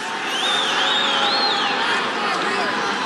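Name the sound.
rally crowd cheering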